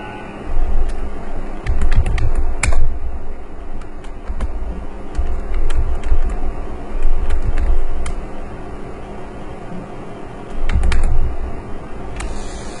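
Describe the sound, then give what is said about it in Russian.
Rapid keyboard typing clatters over a low background hum, with bursts of keystrokes and short pauses, giving the steady feel of an indoor office. “Ну, видимо, офис. Payroll.”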